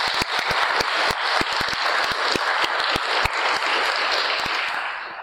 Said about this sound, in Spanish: Queremos dar gracias a esas tres personas. Un aplauso para ellos.